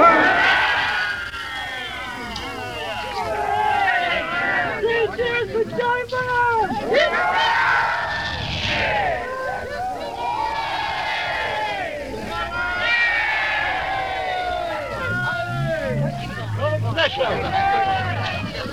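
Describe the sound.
A large crowd cheers and shouts continuously at Neville Chamberlain's arrival, with cries of "well done, Mr. Chamberlain" and "three cheers for Neville", many voices overlapping in a loud, steady roar with rising calls and brief swells, never dropping to quiet for the whole stretch.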